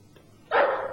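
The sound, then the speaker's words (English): A dog lets out one loud, harsh bark that starts abruptly halfway through and rings on to the end, after a quiet stretch with no talking. “I'll shoot the dog as it comes out.”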